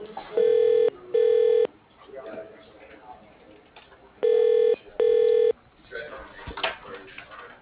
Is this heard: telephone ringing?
yes